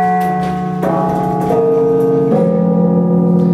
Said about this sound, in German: Diese 60 Glocken hängen in dieser unteren Glockenstube, direkt quasi über unseren Köpfen.